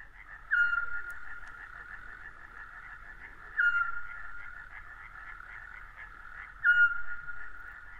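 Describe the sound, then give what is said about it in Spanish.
A scops owl, a small owl, gives three short, clear whistled notes spaced evenly about three seconds apart, regular like a clock, over a dense, continuous chorus of frogs trilling in the background, in the humid forests of Pola de Somiedo, Asturias. No voices. “Bueno, y este autillo, este búho pequeño, lanzaba su llamada regular como un reloj, ¿no?”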